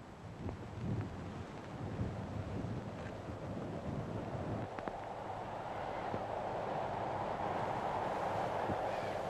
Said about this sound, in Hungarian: Hallja, hogy zúg a szél? Nézze a fenyőket, hogy hajladoznak a szélben.